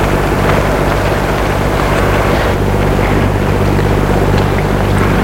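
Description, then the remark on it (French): A loud engine roar drones continuously with a deep humming rumble, growing gradually louder, mixed with rushing wind or water noise, with no voices, heard in a street. “Tournant dans une rue, il entend comme un bruit, un ronflement de moteur et qui grandit petit à petit.”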